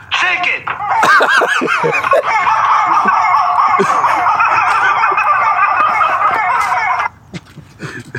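Shrill, wavering rubber chicken squeaks pile up in a dense, continuous screech over the thumping electronic dance beat of an EDM song, staying loud for several seconds before cutting off abruptly, leaving a quieter tail.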